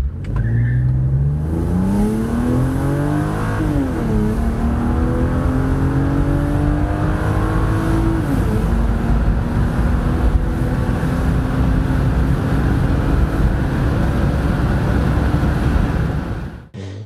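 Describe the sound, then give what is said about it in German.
An AMG car engine on a short test drive revs up through several gears, rising in pitch and dropping at each shift, then settles into a steady loud roar as the car cruises; continuous, no talking. “das meistverkaufte AMG-Fahrzeug, bis es dann erst vom C63 AMG überholt wurde. Und jetzt machen wir mal eine kurze Probefahrt.”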